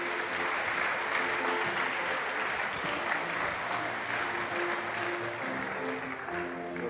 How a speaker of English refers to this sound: And I think they deserve a round of applause too. What do you think?